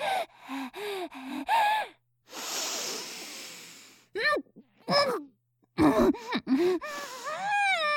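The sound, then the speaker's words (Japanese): A long, airy inhale like a deep sniff of the smell of athletic spike shoes lasts about two seconds, framed by short breathy gasps and moaning vocal sounds before and after. “スパイクの香り、嗅がせてもらってもよろしいですか？”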